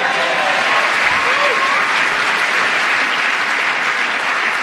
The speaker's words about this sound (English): Well, those instant rounds of applause there.